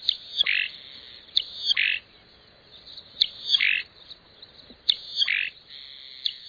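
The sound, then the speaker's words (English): A croaking cisticola sings a repeated series of harsh, buzzy, croaking calls in regular bursts, each phrase spaced about a second and a half apart, clear with no voices. “Maybe none is more distinctive than this one, the croaking cisticola.”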